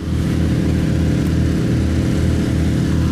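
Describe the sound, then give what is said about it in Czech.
Water pumps run constantly, pumping out floodwater in flooded Nová Ves, with a steady, loud, low mechanical drone, unbroken throughout, their motor hum holding an even pitch with no voices present. “Čerpadla neustále čerpají, voda za dva dny poklesla o několik metrů, teď ale zase stoupla.”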